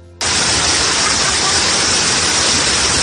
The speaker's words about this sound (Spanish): En uno se ve cómo el conductor de un coche rojo intenta cruzar esa calle, esa gran riada, ¿y qué pasa? Pues que el agua lo arrastra.